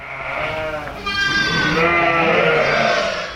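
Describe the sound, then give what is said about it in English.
A ewe bleats in a long, wavering cry that swells after the first second and holds steady, fairly loud, with a quieter bleat at the start and no talking, at lambing time on Maysbach Farm near Pontypridd in South Wales, while her teats are checked for mastitis. “Well, I'll check the ewe's teats now for any mastitis.”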